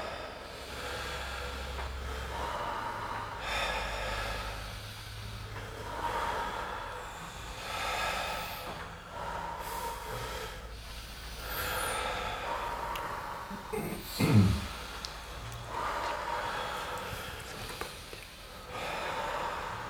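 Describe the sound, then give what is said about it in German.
Deep, audible breaths in and out repeat in a steady rhythm during a guided breathing exercise, each airy rush lasting a second or two, fairly loud, with no talking. “Lasst euch atmen von außen. Immer wieder ein und aus.”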